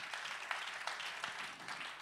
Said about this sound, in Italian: E questo è l'applauso dei cereali antichi.